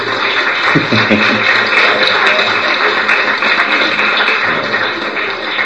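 An audience breaks into steady applause, a dense wash of many hands clapping at an even loudness for several seconds, with a brief murmur of voices early on.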